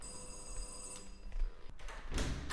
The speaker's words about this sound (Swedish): Vi ringer på.